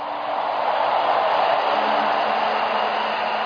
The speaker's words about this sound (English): Everybody expecting a turnaround encounter, give Jesus a clap and a shout of praise.